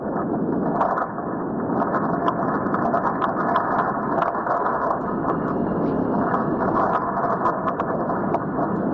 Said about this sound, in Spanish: Es el sonido de lo que está pasando bajo el subsuelo de Tenerife. Así suena la actividad sísmica a unos 10 kilómetros de profundidad